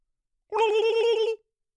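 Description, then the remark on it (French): A single turkey gobble, a loud, rapid warbling burst of under a second, on its own with silence before and after. “Pour vrai, quelqu'un vient te voir pis te parle de son amour pour comme son ami la dinde, tu le calisses dans un hôpital psychiatrique real quick, a bloop bloop bloop bloop bloop.”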